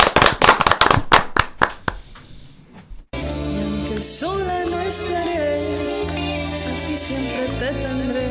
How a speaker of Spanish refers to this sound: Un aplauso